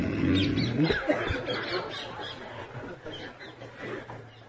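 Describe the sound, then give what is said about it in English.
A man's voice imitates a cow, giving one low, drawn-out moo for about a second before it fades into softer background noise. “makes sounds like that when he hears something nice.”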